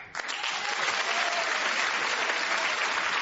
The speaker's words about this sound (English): Round of applause for the three of them.